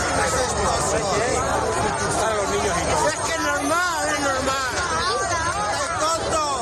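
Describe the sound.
A crowd of children and parents shouts and yells as heifers, let loose in the street at Arenes de Sant Pedro, escape and run, many overlapping voices rising and falling in a steady, loud commotion that never lets up across the whole stretch.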